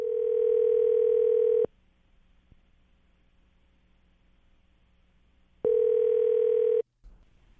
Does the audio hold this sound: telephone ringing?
yes